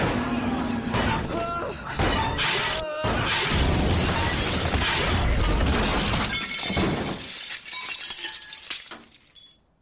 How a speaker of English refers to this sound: But there's no more time for thinking, because suddenly we're crashing into the ground at 270 kilometers an hour.